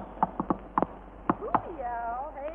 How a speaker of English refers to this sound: Sounds like a woodpecker. Well, maybe it's a human being a-knocking on the door. Open her up, gal.